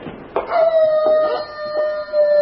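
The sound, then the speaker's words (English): A wolf howls in one long, steady, unbroken note, loud, holding its pitch for a couple of seconds with no voices present. “What's that? A wolf?”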